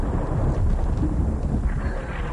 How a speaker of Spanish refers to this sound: Estamos con toque de cañones. Sí, algo así. Cañonazos.